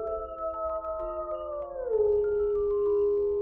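A long, drawn-out animal howl rises and wavers in sustained tones, dipping in pitch midway and carrying on steadily, sounding somewhat distant with no voices present.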